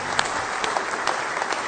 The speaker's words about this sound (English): One more hand clap of praise tonight.